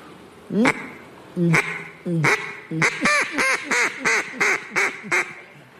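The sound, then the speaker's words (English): A person's voice imitates a duck, giving a rapid series of about ten nasal quacks, a few spaced out at first and then quickening into a steady, fairly loud run. “But I can't talk because I'm a duck.”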